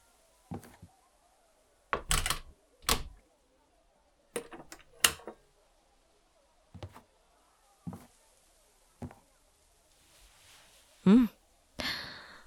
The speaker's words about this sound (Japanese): ああ、後ろ、扉を閉めてくれ。鍵もな。誰かが入ってきたら困るじゃろ。